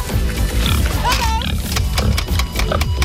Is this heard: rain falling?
no